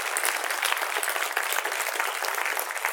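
Steady audience applause at an event in Quebec for an organiser and his team, a dense, bright crackle of clapping that holds at an even loudness for the full few seconds, with no voices standing out.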